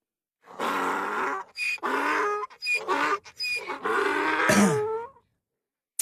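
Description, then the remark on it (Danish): A donkey brays loudly in a long series of harsh, wheezing hee-haw bursts, rising and falling in pitch for about five seconds, with no talking over it. “Så lad os lige lad æslet give et shout-out til sig selv på sin mand, ikke?”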